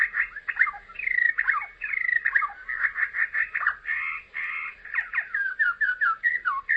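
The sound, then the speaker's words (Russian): A bird sings a continuous, varied song of quick warbling phrases, chirps and rising and falling whistles, fairly loud, with no talking. “Ученых-орнитологов всегда интересовало, как птицы поют, а не почему они поют.”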